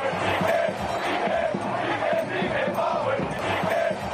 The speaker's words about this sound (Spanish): Entra al campo a 12 minutos del final, el Camp Nou, como escuchamos, le recibe una sonora pitada, los pitos se vuelven aplausos cuando toca los primeros balones y la grada de animación acaba coreando su nombre.